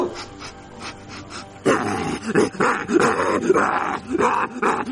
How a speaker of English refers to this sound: Hey, you mutt, give me back my boyfriend! Give me that! Why is there even a rabid dog in this neighborhood? Oh, man, that's my dog.